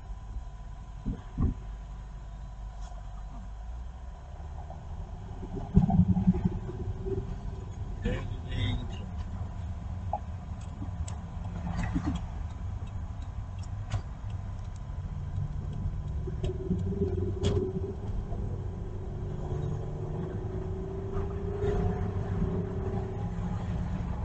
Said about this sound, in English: because you start the car that way the battery doesn't run out of juice.